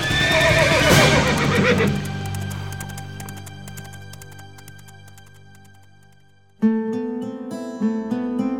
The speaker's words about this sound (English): Merlin helped King Arthur to his horse, and they rode away.